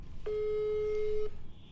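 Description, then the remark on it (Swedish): A single steady electronic telephone call tone as a call is placed back to someone, sounding for about a second, a clean mid-pitched beep with faint harmonics, over low background hum before it cuts off. “Nu ringde mamma upp, så nu ringer vi upp henne igen.”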